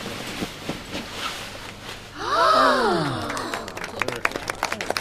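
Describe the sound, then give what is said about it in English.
At an art museum, a crowd lets out a rising-then-falling collective "ooh" as a famous artist pulls the cover off his new sculpture, and scattered clapping breaks out toward the end, growing into applause. “Everybody claps.”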